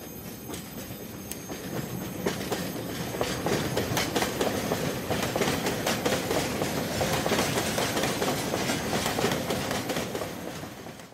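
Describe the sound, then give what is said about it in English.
A coal train hauled by a locomotive rolls steadily along the rails with a continuous rumble and repeated clickety-clack of wheels over joints, loud, with faint metallic squeals and no voices. “The fireman couples the locomotive onto the waiting rake, and the train returns to coal transportation service till the evening shift change time, when the whole cycle repeats itself.”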